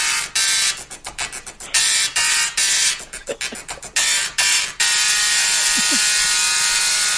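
A dot matrix printer prints up close, loud bursts of harsh, rasping buzz in a stop-start rhythm, broken by short pauses before settling into a steady run. No one speaks.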